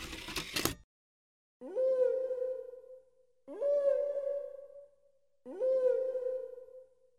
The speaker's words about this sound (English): What is that? Is it music? Well, it is a song, yes, but it's a whale song. I have this CD of whale songs. I listen to them when I feel stressed out. It's really relaxing.